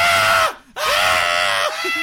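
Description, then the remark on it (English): A person imitates an eerie alien laugh with two loud, strained, high-pitched yelling bursts separated by a brief gap, close to the microphone with harsh overtones. “You know, well, the Ebens would watch the game and laugh out loud, and apparently the Eben laugh sounded like a high-pitched yell.”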